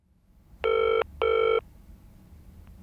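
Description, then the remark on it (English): A telephone rings twice in quick succession, each ring a steady, bright electronic trill lasting under half a second, clear over a faint low background hum. “Come on, pick up the phone.”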